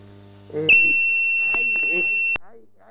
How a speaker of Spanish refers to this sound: No sé si está el teléfono, pero el pitazo que me acabo de meter. Avisa de que está el teléfono. Tengo un ruido que no controlo.